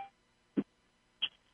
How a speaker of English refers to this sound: You can hear our conference line is picking up people right now. People are joining us.